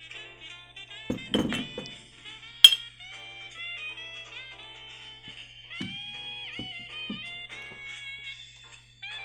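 Glasses knock together in one bright, sharp clink after a few dull thumps as friends toast over drinks, with a steady high-pitched tonal hum that wavers in the background.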